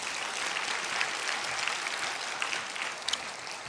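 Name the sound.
audience applauding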